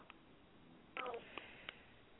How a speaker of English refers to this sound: Y'all hear these backgrounds coughing. We in session right now.